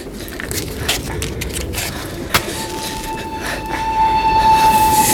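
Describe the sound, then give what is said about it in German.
A steam train rumbles along the tracks, its clatter growing louder as it approaches, with a steady high whistling tone rising over the noise in the second half. No one speaks. “Das Wiehern des eisernen Rosses ist fürchterlich.”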